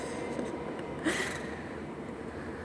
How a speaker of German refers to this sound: Und da fährt der Zug. Ein letztes Mal vorbei. Der Feierabendzug. Kurz vorm Dunkelwerden.